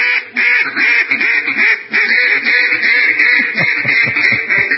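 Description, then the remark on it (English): A loud duck-quacking sound effect fills the whole stretch, a rapid run of overlapping nasal quacks as if from several ducks at once, with no voices over it. “That's Orax of Respectful Insolence quacking and claiming that Michael Phelps is doing quackery.”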